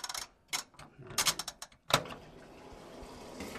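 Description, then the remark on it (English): A washing machine dial clicks and ratchets in a series of short mechanical bursts as a load of laundry is started in a narrow hallway at the back of a house, then a sharp clunk gives way to a steady low hum as the machine starts. “walks me to a narrow hallway at the back of the house with a washer and dryer.”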